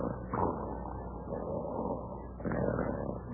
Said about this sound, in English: Hey, listen to that. I didn't know there was a sawmill on the premises. What? That snoring. There's only one man I ever heard snore like that.